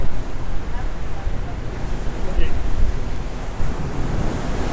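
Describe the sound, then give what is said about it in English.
Loud, continuous rush of churning water and surf alongside a moving ship, with heavy wind buffeting the microphone and a steady low rumble underneath. “You listen to that amount of water that's being thrown around.”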